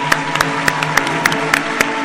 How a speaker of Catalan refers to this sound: Un fort aplaudiment!